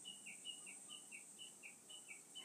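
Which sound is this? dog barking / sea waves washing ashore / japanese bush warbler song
japanese bush warbler song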